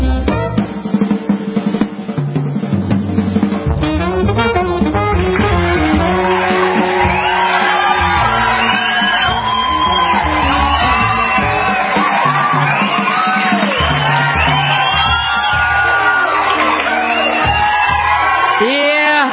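crowd cheering and applause

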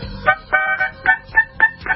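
harmonica being played

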